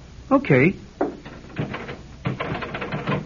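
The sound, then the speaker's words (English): A quick voiced murmur, then a run of rapid metallic clicks and rattles as a door knob is twisted and jiggled, tried before the key is used, the sharp bursts coming in an uneven rhythm at moderate loudness. “Take the key and open the door. Huh? You sure it's all right? Try the knob first.”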